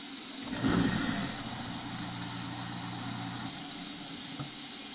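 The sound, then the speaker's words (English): An overflowing dishwasher churns with a steady, low mechanical hum and rumble, spilling water everywhere after the garbage disposal was not run. There is a louder surge of whooshing water near the start, then a continuous droning motor sound with no talking. “My dishwasher's overflowing and it's making noises.”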